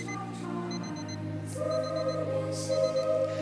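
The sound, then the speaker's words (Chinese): An alarm clock beeps in quick repeated bursts of high tones, ringing steadily over a sustained musical drone with occasional soft hissing swells. “连闹钟都感动了啊，万物都是有情的。”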